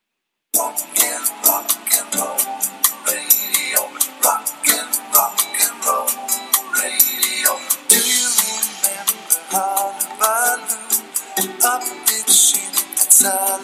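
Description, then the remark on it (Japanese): An upbeat pop song with singing plays from an album, clear and steady, driven by a crisp, regular beat with bright percussion. It starts after a brief silence, and no one talks over it. “なんだろう、このスタカンみたいなのは誰が歌ってんだろう、誰が歌ってんだろう”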